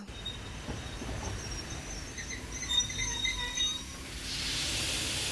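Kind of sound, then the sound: vehicle, train arriving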